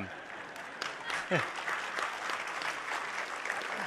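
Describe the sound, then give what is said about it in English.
A church audience applauds steadily, a dense wash of clapping hands that holds at an even level for several seconds, with a brief voice or call rising through it partway. “I think you can applaud for that.”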